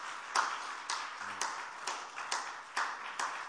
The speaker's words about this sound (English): I believe you can do better than that. Amen. If that for the choir, I think it's beautiful. But if it's for Jesus, we can do better. Let's clap for Jesus this morning.